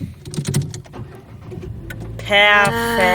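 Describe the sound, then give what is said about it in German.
A car engine starts up: a few seconds of rattling, clicking cranking, then the motor catches and settles into a loud, steady humming idle. “Soll ich mal kurz machen, sollen wir mal einen Live-Test machen, ob das Auto noch ja. startet?”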